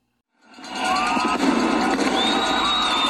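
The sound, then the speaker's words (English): Venezuela's opposition celebrating at midnight with fireworks and demonstrations: a dense, steady crowd roar swells in after a brief silence, with shrill whistles gliding above it and a couple of faint sharp firework cracks. “These are the sounds of Venezuela's opposition celebrating with fireworks and demonstrations last night at midnight”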